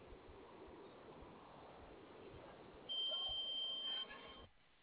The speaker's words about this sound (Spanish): Dice, escucha un pinche pitido. ¿Se escucha ese de la caja? ¿Dónde? ¿Ese sonido es de la caja? Ajá. Lo va a mandar reset a ver si se le quita, ¿va? A ver. No. No. Sí, el sonido es de la caja.